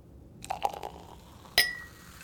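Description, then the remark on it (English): Glasses of Veuve Clicquot champagne clink together in a toast: a few soft taps and rattles, then one bright clink that rings out and fades. No one speaks. “At this time of night, a glass of champagne will do nicely.”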